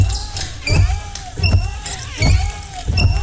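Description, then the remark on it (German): Worn car windshield wipers that need replacing squeak across the glass in a steady back-and-forth rhythm, each pass a loud rubbery squeal with a soft thump, four strokes in a row. “So klingt es, wenn Ihr Auto nach neuen Scheibenwischern fleht.”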